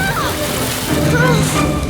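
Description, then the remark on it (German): A splash into water followed by steady sloshing and churning, fairly loud, continuing for about two seconds, as something breaks through thin ice into bitterly cold water. “Dann brach es ein.”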